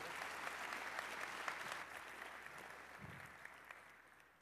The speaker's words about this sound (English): A big round of applause for Gene. Thank you.